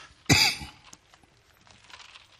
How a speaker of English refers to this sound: Apologize for all the coughing.